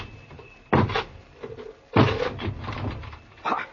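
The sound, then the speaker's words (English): A wooden door is forced open by a corporal with three heavy blows, each a loud crash followed by rattling and creaking wood, the middle impact the longest and most splintering. “Corporal! Break this door down!”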